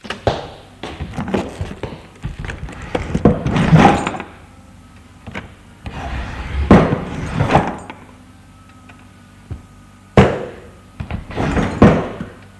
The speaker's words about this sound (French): Arrivé à son bureau, il ouvre les tiroirs de son bureau.